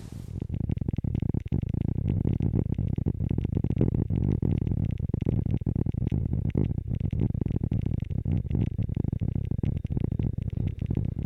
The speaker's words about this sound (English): This soundscape is a dendrophony duo, two different sounds created by movement of water and wind inside this ash tree.